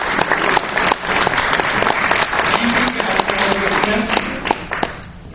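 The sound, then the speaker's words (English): An audience breaks into sustained applause for the presenters at the end of a meeting, a dense wash of many hands clapping at a steady loudness for about five seconds before tapering off, with faint voices murmuring underneath. “If nobody has anything else, thank you everybody so much, and let's give our presenters a round of applause.”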